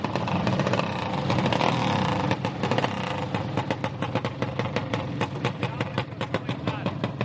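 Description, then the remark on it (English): Blade-free riding lawnmowers souped up for racing rev and sputter loudly at Lewis County Memorial Park in Hohenwald, Tennessee, on an October Saturday: a rough buzzing drone that gives way to rapid, choppy pulses as throttles rise and fall, with a voice faintly mixed in. “Each bears a riding lawnmower, blade-free and souped up for racing.”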